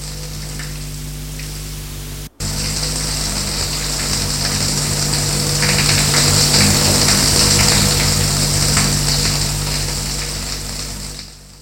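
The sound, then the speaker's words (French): A shower runs steadily with a dense, hissing spray of water, broken by a brief cut early on, then continuing loud before fading slightly at the end. “Une porte, des pas, une autre porte, la douche,”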